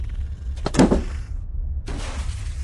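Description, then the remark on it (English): A couple of dull thumps with a thin metallic straining sound inside a laundry vacuum tube as someone repairs it, then a steady, faint airy rushing that continues to the end. No voices. “A thumping here, the straining of thin metal there.”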